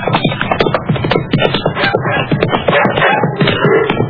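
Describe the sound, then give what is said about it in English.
A dog named Sullivan barks and yelps in quick, loud bursts, the sharp calls tumbling over one another almost without pause for several seconds. “What's that? It sounds like one of our dogs.”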